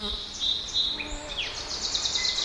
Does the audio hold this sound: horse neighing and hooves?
no